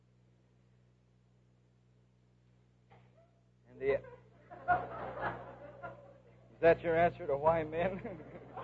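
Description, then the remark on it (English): A single sharp sneeze bursts out, followed by a voice speaking and a few soft chuckles from listeners. “Gesundheit.”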